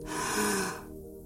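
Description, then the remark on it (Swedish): A single deep, audible inhale lasting most of a second, breathy, swelling then fading into quiet. “Andas in.”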